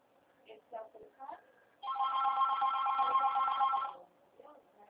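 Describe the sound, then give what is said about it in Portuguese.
A Portuguese-language voicemail tone sounds after a recorded announcement that the call is being forwarded to voicemail and will be charged after the tone: one steady, buzzy beep lasting about two seconds, loud and unwavering in pitch, with brief snatches of speech before it and faint talking after. “Chamada está sendo encaminhada para a Caixa Postal e estará sujeita à cobrança após o sinal.”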